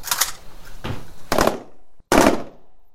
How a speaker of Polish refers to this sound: Rozpocząć strzelania! Rozkaz! Zmiana, pobrać amunicję! Amunicyjny wydać zmianie po 24 naboje! Uwaga, strzelanie! Uwaga, strzelanie! Wykryte cele niszczyć samodzielnie w wskazanych sektorach ognia!